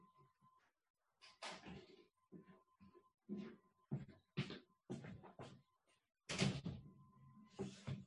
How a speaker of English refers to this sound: Sorry, this is a noise from the other room. I had to close all the in-between doors.